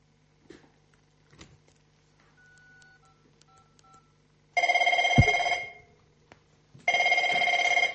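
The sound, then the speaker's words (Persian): Faint, quick telephone keypad tones are dialed, then a loud, buzzy telephone ring sounds twice in long bursts separated by a short pause. No one speaks. “خیر استو، من از اینجا زنگ میزنم.”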